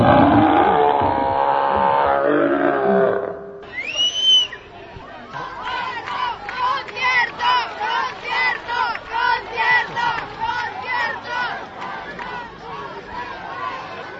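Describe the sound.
A large audience roars and shouts loudly when asked to shout if they want the football match's extra time shown, a dense wall of voices at first, then a whistle cuts through and the crowd keeps up rhythmic, pulsing cheers.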